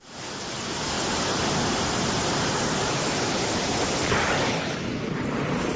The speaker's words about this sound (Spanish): Claro, esto es un trueno tremendo, Sonsoles. ¿Usted escuchó este trueno ayer?